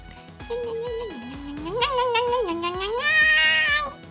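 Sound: cat meowing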